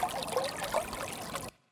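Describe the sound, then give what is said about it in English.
Water trickles steadily in a chalk stream, a bubbly babble of small gurgles that runs continuously for about a second and a half before cutting off abruptly into silence. “River droplet. Chalk stream.”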